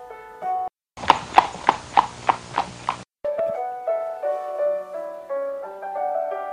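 Two black horses trotting past, heard as a brief, steady clip-clop of about seven even hoofbeats, framed by soft melodic music before and after.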